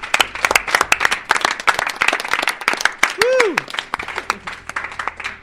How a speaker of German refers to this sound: Vielleicht mal einen kleinen Applaus für das Radio Chico-Team.